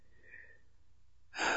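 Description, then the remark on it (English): A deep breath: a faint airy exhale at first, a brief quiet pause, then a loud, rushing inhale at the end. No one speaks. “Listen to the sound of your breathing.”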